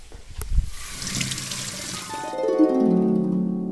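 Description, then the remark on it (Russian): A kitchen faucet handle clunks at night and water gushes out of the tap in a steady rush, then gives way to a brighter, ringing tone as the flow continues, fairly loud, with no talking. “Не успела она открутить кран, как оттуда выпорхнула фея и присела к Мари на плечо.”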